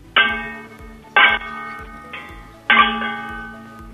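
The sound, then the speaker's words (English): Four metallic clangs of two copper pans struck together like cymbals, each a bright crash that rings on with a bell-like tone; the third hit is softer, and no voices are heard. “You got to really bang, like you're playing the cymbals and like sing a song.”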